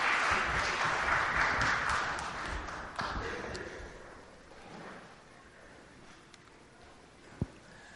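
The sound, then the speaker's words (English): An audience claps for the Beavers in a dense burst of applause for about three seconds. The applause then thins out and fades into quiet murmuring, with one sharp knock near the end. “I think we should give them a great big clap, because that's a big thing doing that.”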